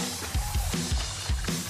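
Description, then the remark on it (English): Wet, squelchy splashes of raw hamburger juice on a cutting board repeat in a quick, steady rhythm, about six soft low thumps, over a constant hiss. “This is the sound of E. coli splashing around in raw hamburger juice on your cutting board.”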